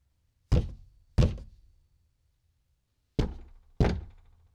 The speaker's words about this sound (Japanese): ある晩のことです。バブーの住むボロ屋の玄関をトントンと激しく叩く音が聞こえました。